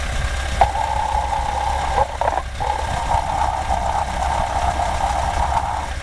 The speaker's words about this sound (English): All right, let's take a listen. We got the alternator.